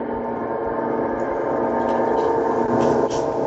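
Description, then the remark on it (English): A sustained gong-like sound effect with a droning, organ-like chord, rich in layered tones, holding steady and loud for several seconds without fading. “Did you just gong us? It sounds like an organ playing.”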